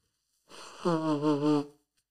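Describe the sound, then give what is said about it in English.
A single loud nose blow by a man who is sick, lasting just over a second, starting with a breathy rush of air and turning into a wavering, honking tone before stopping abruptly. “But you know, it's rough, rugged, and raw here at the Welcome to the Potty podcast, so I have to blow my nose, and you guys are going to have to listen to it.”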